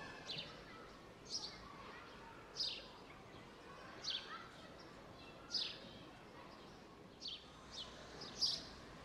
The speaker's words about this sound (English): Our brains are amazing machines. They can hear the sound of a park as one sound, or, if we focus, we can divide the sounds in our minds to hear just one sound at a time.